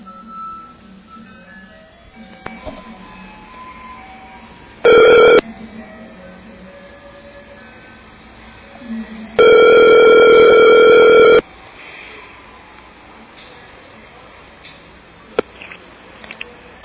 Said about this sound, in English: All right, so let's give Dredd a call on his cell phone.